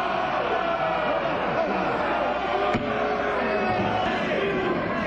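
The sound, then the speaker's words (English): A single sharp gavel strike as the chair calls a vote on an agriculture bill, cutting through loud overlapping chatter and murmuring voices of a crowd that continue steadily around it. “Let's listen as New York Democrat … brings down the gavel”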